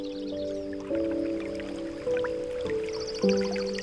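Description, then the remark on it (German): A small brook babbles softly, trickling and dripping, heard from a distance, beneath a sustained, mellow synth chord that shifts to new harmonies every second or so. No voices are heard. “Langsam erhebst du dich und läufst über die Gänseblümchenwiese in Richtung eines kleinen Baches, den du schon von weitem plätschern hörst.”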